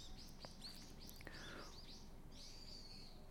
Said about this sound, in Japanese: 本当になんかこうまあ時たま車も通るんですけど、この鳥のさえずりがあったり川のせすらぎがあったり、その中に街並みがあるからなおさらいいですよね。